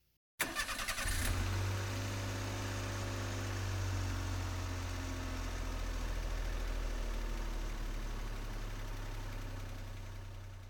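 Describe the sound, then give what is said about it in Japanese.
A car engine turns over with a short burst of starter noise, then settles into a steady rumbling idle that continues as the car pulls out, with no one speaking. “じゃあ、車出しちゃうから。”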